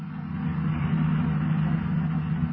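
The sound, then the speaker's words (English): A steady, low engine drone hums continuously as police cars drive at a constant speed toward a hill, with a dense rumble throughout and no voices. “Meanwhile, the boys in the police cars approach the hill that was indicated on the map.”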